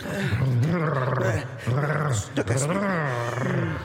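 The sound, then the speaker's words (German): A dog growls steadily while playing, a low rumbling snarl with rising and falling pitch that carries on for several seconds. “Oh, Hunden spät gern.”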